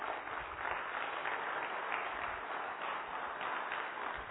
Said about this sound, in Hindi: ताली जोर से बजा सकते हैं।